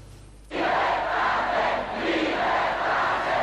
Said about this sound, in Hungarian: Szabadságot! Ezt skandálta a több tízezres tömeg Temesváron, ahol a forradalom Tőkés László lelkész lakása elől indult meg.